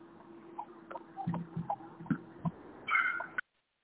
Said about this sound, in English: Dog.